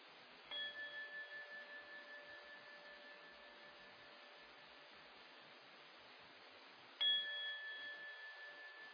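A meditation gong is struck twice, several seconds apart, each hit ringing out in a long, shimmering, slowly fading tone over a steady background hiss. No one speaks.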